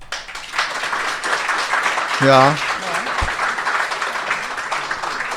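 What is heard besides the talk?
polite audience applause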